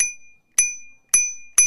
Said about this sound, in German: Können Sie uns noch einmal Ihre Klingel vorführen? Die habe ich ausgesucht, damit sie die Leute nicht so erschreckt.